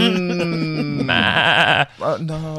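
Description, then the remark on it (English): Sheep bleating loudly, a long wavering bleat followed by a shorter one, with no other sounds around them; stray sheep stuck in a fence. “Some stray sheep stuck in a fence.”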